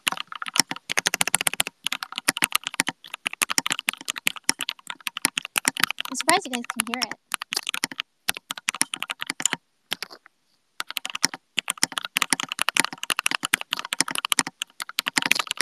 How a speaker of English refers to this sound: Horrible just now. Were you guys able to hear that? It was like 90 words per minute, I think. Like 89 words per minute. 何の音? キーボードの音です。新しくね、昨日届いたキーボードです。